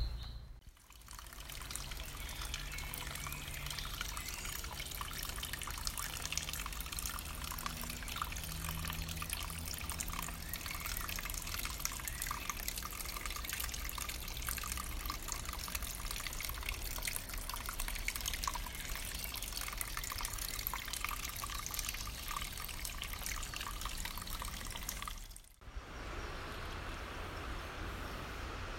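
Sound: river water flowing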